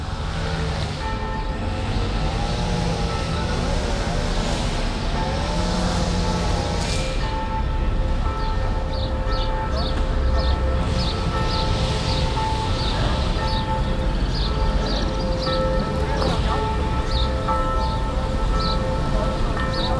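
Church bells about 150 metres away ring across the Aare river, their sustained humming tones swelling and fading over a steady rush of water, with faint bird chirps flickering above.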